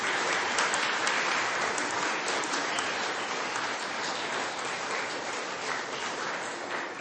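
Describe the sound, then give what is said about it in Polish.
Sustained applause from a crowd gathered at a parish meeting as they welcome one another, a dense, steady patter of many hands clapping at an even loudness for several seconds, with no voices standing out. “A zatem bardzo serdecznie przywitajcie siebie nawzajem, także gorącymi oklaskami.”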